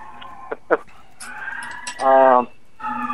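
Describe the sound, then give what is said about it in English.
Emergency sirens on a New York City street wail steadily, a sustained rising-and-falling tone that swells louder midway, with a few short voice-like bursts around it. “Can you guys hear those sirens?”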